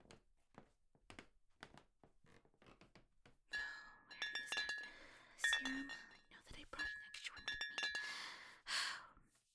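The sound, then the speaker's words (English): Soft breathing and sighs give way to a few seconds of clattering in a kitchen, with glass clinking and ringing briefly amid thuds and handling noises, as someone gets a glass of water. “Could I trouble you to ask where the kitchen is so that I could get a glass of water?”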